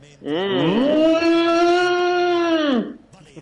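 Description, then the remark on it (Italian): A single long cow moo, loud, rising at the start and then holding steady for about two seconds before fading out, played on air during an Italian football TV show. “Abbiamo trasmesso la mucca.”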